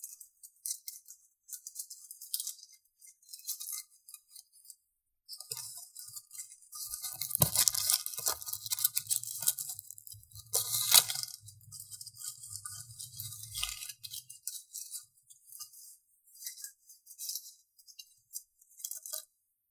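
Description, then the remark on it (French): Dry leaves crunch and crackle in irregular, rustling bursts, growing denser and louder through the middle with a low rumble underneath, then thinning to scattered crackles. No one speaks. “Je préfère les feuilles à l'eau qui coule.”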